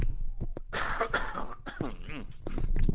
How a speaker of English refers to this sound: But I, excuse me, I'm just going to take the headset off and have a little cough.